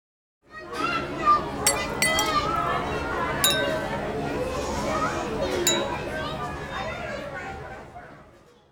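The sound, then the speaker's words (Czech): Plates, forks, knives, spoons and glasses clink repeatedly against a table, several sharp bright chinks standing out over a steady murmur of background chatter. “Na stole jsou talíře, vidličky, nože, lžíce a lžičky, skleničky, ubrousky, sůl a pepř.”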